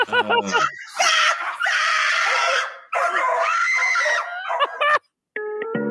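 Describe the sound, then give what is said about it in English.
A dog named Daisy, in a TikTok video and scared of a cat, yelps and barks in loud, high-pitched bursts, frantic, with shrill whining cries running almost continuously before a brief pause and a final short yelp. “Come on, get, Daisy. Get back. Oh, the cat's name's Daisy? Quit being scared. Get in. Get in. The dog is Daisy.”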